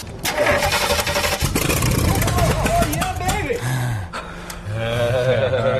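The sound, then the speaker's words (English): An engine cranks over and over without catching, a loud, rough mechanical churning that sputters and stalls, with voices murmuring in the background. “The mules have made quite a comeback, but if that engine doesn't start, they're off to the knacker's yard.”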